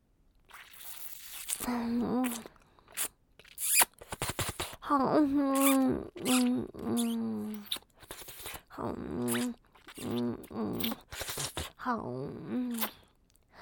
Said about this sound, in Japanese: 耳舐めしてあげる。耳がふやけるまでペロペロするから